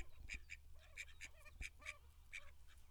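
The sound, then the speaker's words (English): Two pairs of ducks quack repeatedly in quick, overlapping bursts as they approach wanting food, several birds calling over a low rumbling background, with no talking. “Yeah, the ducks are coming to see me.”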